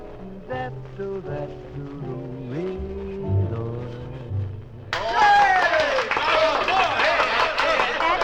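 A sung melody with musical accompaniment ends, then a loud burst of audience applause fills the club, dense and sustained, with scattered cheers and whistles rising through the clapping.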